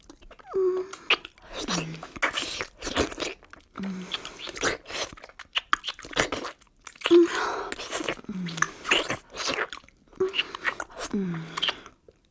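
Close, wet chewing and slurping mouth noises repeat in irregular bursts throughout, with brief soft vocal murmurs mixed in between the smacks.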